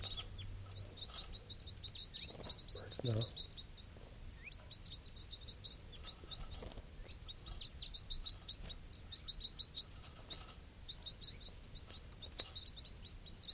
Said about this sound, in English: Recording, these are the calls of one of the wild birds.